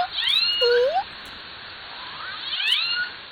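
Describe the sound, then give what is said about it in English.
Two squealing, upward-sweeping killer whale calls from an L pod, recorded underwater, each about a second long and separated by a pause, over a steady background hiss. “but each family group has its own distinct dialect, and these can be used to almost immediately recognize which one has arrived in range of a hydrophone.”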